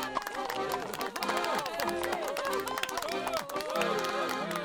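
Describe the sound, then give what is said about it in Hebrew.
A dense crowd of the colony's residents lines both sides of the street, cheering with many overlapping voices shouting and whooping as the Baron's carriage passes, while scattered clapping runs underneath at a steady, loud level throughout. “כשחלפה המרכבה על פני התושבים, כולם מחאו כפיים והריעו.”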